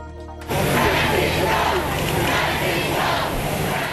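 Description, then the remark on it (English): Enthusiastic crowds roar, cheering and chanting to greet Pope Francis on his arrival in the United States, a dense, sustained wall of voices that starts abruptly after a brief tonal lead-in and stays loud throughout. “Pope Francis was greeted on arrival in the United States by chanting and cheering enthusiastic crowds and President Obama as he arrived Tuesday”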